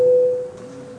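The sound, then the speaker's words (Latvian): A steady electronic parliamentary voting bell rings loudly and alone for about half a second, calling a vote on deputy Gešins's seventh proposal, then decays into a fainter lingering hum with reverberation. “Lūdzu zvanu, balsosim par septīto deputāta Gešina iesniegto priekšlikumu.”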